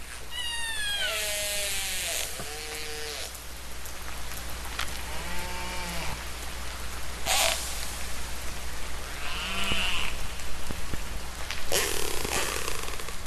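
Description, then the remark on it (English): Orca calls: a series of squealing, whistle-like cries that bend up and down in pitch, mixed with buzzy pulsed bursts, over a steady hiss of underwater noise with no talking. “Listen to the musical orca.”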